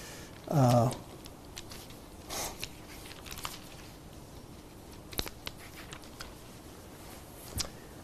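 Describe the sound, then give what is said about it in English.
Paper pages held with paper clips rustle and flip in a few brief, crisp bursts spread across several seconds as someone turns to the book of Romans, after a short murmured vocal sound near the start. “As I'm getting to Romans, I hope I haven't pinned it out of the way with my paper clips here.”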